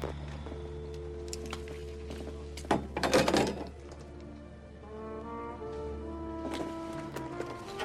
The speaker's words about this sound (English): She empties her desk.